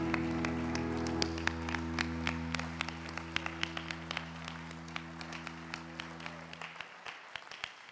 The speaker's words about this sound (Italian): A te, Signore, va questo applauso.